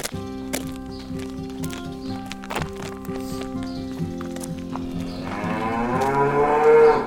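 Cows and calves moo in a barn on a farm, a long low bellow swelling loudly toward the end, with scattered clanks and thuds of livestock moving throughout.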